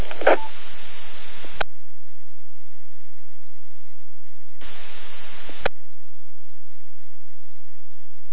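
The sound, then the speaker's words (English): Two abrupt bursts of hissing static on an amateur radio net transmission in Washington, each about a second long and separated by a few seconds of near silence, with faint garbled tones inside the first burst. “Over your signal was readable but had a lot of static on it, but I got you.”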